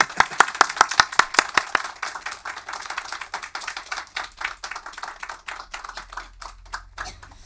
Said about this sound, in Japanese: 大きな拍手でお帰りなさいとお迎えしたいと思います。